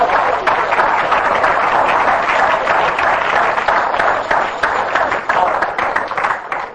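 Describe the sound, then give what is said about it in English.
An audience at a morning church service claps hands for the Lord in a steady, dense burst of applause lasting several seconds, loud and even throughout with crisp individual claps scattered through the wash of sound. “Give the Lord a big hand clap here this morning to believe it.”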